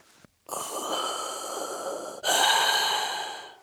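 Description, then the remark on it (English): A single slow, loud mechanical breath through a scuba regulator, recorded with a microphone placed inside the regulator: a long hissing inhale with a metallic whistle, then a stronger rasping exhale. There is no talking. “If you want to get the effect right, you first have to place a microphone inside a scuba diving regulator.”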